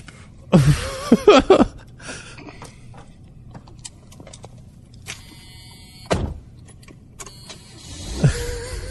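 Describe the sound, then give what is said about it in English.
A brand-new New Yorker car starts up and pulls away: a burst of door thuds and clunks, a steady low rumble, a brief whir, then the vehicle noise swells at the end. No one speaks. “Gets in his New Yorker and leaves.”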